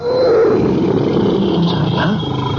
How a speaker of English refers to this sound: A tiger? I have no gun. I'm unarmed. Have no fear, Sahib. Thou shalt be protected. Protected? By what? By whom? That's a tiger.